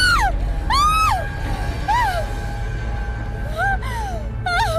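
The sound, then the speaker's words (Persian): A woman screams repeatedly in loud, high-pitched bursts that rise and fall, about five cries over a low rumbling background, with short pauses between them. “پس میخوام جیغ بزنی.”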